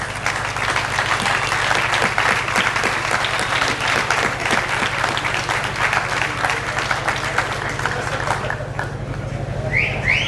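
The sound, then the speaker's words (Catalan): Loud, dense audience applause keeps up steadily for about nine seconds over a constant low hum, then thins out, with a couple of short rising whistles at the very end, welcoming the mayor of Roquetes, Ivan García. “Un fort aplaudiment, per favor.”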